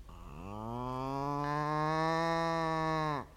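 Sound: cow mooing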